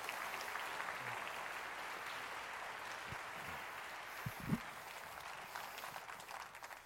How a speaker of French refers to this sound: et que ceux qui le reçoivent ce matin disent un dernier grand amen et qu'on applaudisse ensemble ce que Dieu va faire.